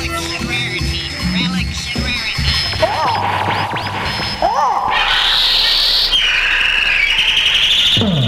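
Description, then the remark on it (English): Birds screech and chirp in a loud, dense cluster, with sharp rising calls breaking through a harsh, hissing wash of high-pitched cries that swells and fills the later seconds. “don't be scared. It's not those birds from 63 that appeared in the Alfred Hitchcock movie”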